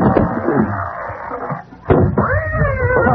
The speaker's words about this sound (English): It's big black cat. It's gone over behind packing boxes. The cat business can wait.